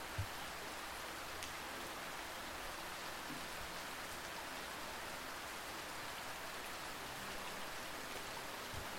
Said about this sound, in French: La sensation si agréable d'être au sec et de regarder la pluie tomber et nettoyer la ville.